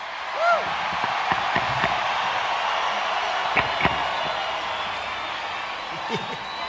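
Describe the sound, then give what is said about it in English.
A live Monday night crowd at a Radio Margaritaville show in Atlanta, Georgia keeps up a steady roar of cheering and chatter, with a sharp rising whoop early on and scattered knocks and bangs cutting through the noise. “Yeah, Monday night crowd, huh?”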